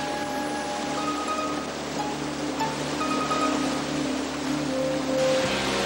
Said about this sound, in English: No, cousin, I think the river is getting angry at us. No big deal. Let's just paddle.